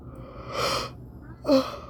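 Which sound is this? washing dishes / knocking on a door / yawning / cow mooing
yawning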